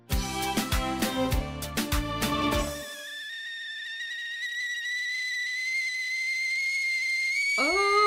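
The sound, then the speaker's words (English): A burst of rattling, bubbling clatter gives way to a kettle's steady, piercing whistle that holds for several seconds, creeping slightly higher in pitch and getting louder. “Kettle is whistling.”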